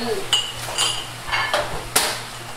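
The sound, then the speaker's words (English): Dishes and cutlery clatter as staff busily prepare dishes in a small, hot, windowless restaurant kitchen, with a handful of sharp metallic clinks and knocks ringing out at irregular intervals over a steady low appliance hum. “In the small, hot and windowless kitchen, staff are busy preparing dishes”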